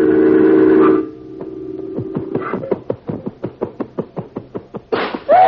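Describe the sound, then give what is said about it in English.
A picture frame clatters off the wall: a steady rapid run of sharp wooden knocks and rattles, after a loud sustained whistling tone, ending in a brief noisy burst. “He's knocked it down.”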